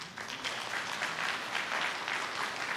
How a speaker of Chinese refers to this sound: 中午吃饭的时候，两个都接受了耶稣，我们给神一个掌声。